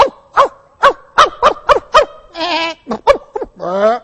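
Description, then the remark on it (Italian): A person imitates a barking dog, loud: a quick, rhythmic run of about ten short yapping barks, broken by two longer, wavering whine-like cries. “No, io sono il cane.”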